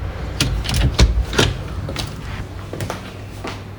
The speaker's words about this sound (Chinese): 打扰一下，我可以进来吗？我开门喽。